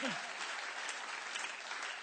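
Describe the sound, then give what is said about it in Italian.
A church audience breaks into loud, sustained applause for Christ, a dense and steady wash of many hands clapping at once, with a brief voice fading out at the very start. “Forte l'applauso a Cristo!”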